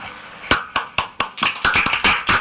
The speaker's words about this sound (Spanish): Bueno, qué bien, qué alegría oír esos aplausos ahí en Barcelona, qué bien me suenan, la verdad.